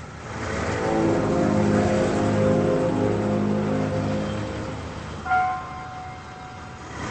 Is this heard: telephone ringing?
no